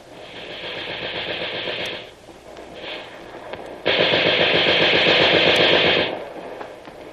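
Sustained bursts of rapid automatic gunfire from a mounted gun, a loud rattling stream that pauses briefly, resumes, then surges into a longer, harsher burst before cutting off.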